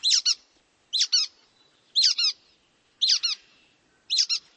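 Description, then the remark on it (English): A brown-headed nuthatch gives squeaky, doubled call notes, five bursts spaced about a second apart, clear with no other sounds around them. “While the brown-headed nuthatch comes off as squeaky.”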